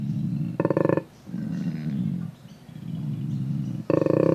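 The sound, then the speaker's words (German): A male koala called Thunder from Down Under, at Taronga Zoo, bellows in a deep, rasping series of snoring inhalations and belching roars, with two louder harmonic bursts standing out, one early and one at the end. “Der Klang von Thunder from Down Under, so der donnernde Name des Tieres im Zoo von Taronga.”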